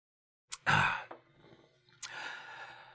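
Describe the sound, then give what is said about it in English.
A person coughs: a loud, harsh burst followed by a rougher breathy tail, then a second raspy cough about a second later, with no talking. “Hang on, I have to cough here.”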